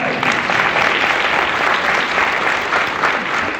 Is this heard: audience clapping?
yes